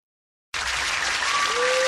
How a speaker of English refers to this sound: Let's do live applause.